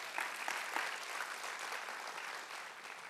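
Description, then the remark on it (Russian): Sustained applause given to Jesus during a sermon, a dense, steady wash of many hands clapping at an even level throughout, with no one speaking over it. “Давайте Иисусу дадим громкие аплодисменты.”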